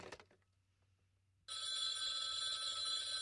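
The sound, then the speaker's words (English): A telephone bell bursts into loud, continuous ringing partway through, a steady metallic jangle, following a short stretch of near silence with a faint low hum. “Hello, stop ringing me, do you hear? Answer me, who is this?”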